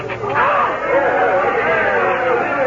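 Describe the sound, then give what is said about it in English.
A large crowd outside the window cheers and shouts as the Duke crosses the border, a dense, steady roar of many overlapping voices that stays loud for the whole few seconds without pause. “Judging from that crowd, the Duke has just crossed our border.”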